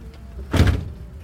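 A heavy door on a massive red vintage Cadillac, bought at auction from America and once owned by a singer, swings shut once with a deep, solid thud, fairly loud, then a short low rumble fades out. No one speaks.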